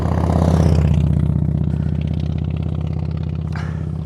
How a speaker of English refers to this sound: Yeah, that's a skill, driving that tractor. Probably take quite a few days to break up that whole field out. That's a big ass field.